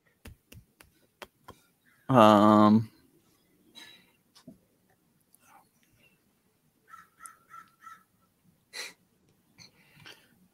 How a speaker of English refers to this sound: Did you hear the birds? Oh, yeah. Yeah. I have to have all my windows open. It's too hot to not have them open.